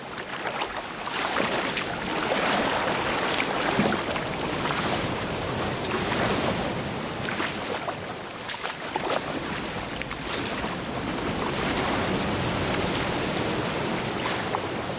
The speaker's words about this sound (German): Ich schnappe mir Annettes Kajak und paddle durch die Brandung, ohne zu kentern.